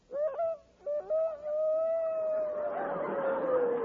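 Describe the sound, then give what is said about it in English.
Actor Victor Moore, on the Rexall radio program, imitates the Pathé newsreel rooster crowing: a few quick, choppy syllables, then one long, loud, sustained note that slowly sinks in pitch as a hiss of background noise swells beneath it. “But now, ladies and gentlemen, as a special feature of the Rexall program, we present for the first time on the air the crowing of the Pathé newsreel rooster.”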